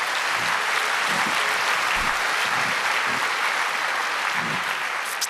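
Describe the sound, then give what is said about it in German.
Steady, dense audience applause welcoming speakers as they take their seats fills the whole stretch, a continuous wash of many hands clapping at an even level with faint murmurs of voices underneath. “Ja, nehmt einfach Platz, am besten in der Nähe eines Mikrofons und genießt den Applaus.”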